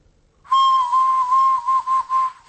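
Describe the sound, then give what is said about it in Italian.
A sustained, steady whistle tone blown at a fairly high pitch on an ancient pre-Columbian Maya whistle, loud and slightly breathy, wavering and pulsing toward the end before stopping, with no talking over it. “Questo suono non lo sto facendo ora, io, qui. Viene dai Maya, direttamente. Anche se sono io a soffiare, qualcun altro avrà messo le sue labbra qui.”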